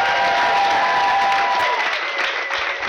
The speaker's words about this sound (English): you do me a favor and let's thank all of the people who are in other rooms, out on the porches, and around this place who have served food, cleaned up stores, and made sure that we have a great camp week. Would you just give them a round of applause?